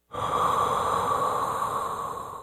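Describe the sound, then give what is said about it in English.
A single long, deep breath, a steady airy rush that starts abruptly and holds evenly for a couple of seconds before easing slightly, with no talking. “My mother's breathing was slowing.”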